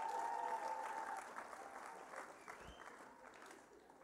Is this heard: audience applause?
yes